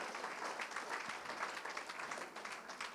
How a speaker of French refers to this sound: on peut l'applaudir pour l'accueillir.